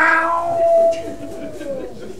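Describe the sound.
A voice imitates a drawn-out cat yowl, a single long wailing tone that starts bright and slowly slides downward, clear, fading out after about two seconds.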